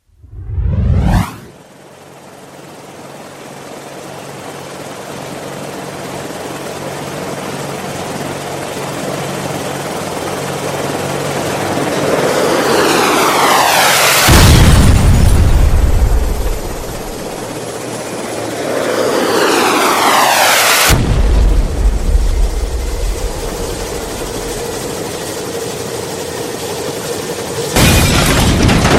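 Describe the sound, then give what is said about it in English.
A loud, steady helicopter roar with whooshing passes overhead, broken by several sudden, powerful blasts like explosions as the aircraft goes down. No one speaks. “Captain, the chopper's down. I repeat, the chopper is down.”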